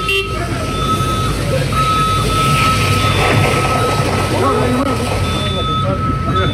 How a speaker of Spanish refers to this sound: Claro, llegan los equipos de seguridad del aeropuerto para apagar el incendio de este tractor que se está incendiando, emanando una cantidad de humo increíble.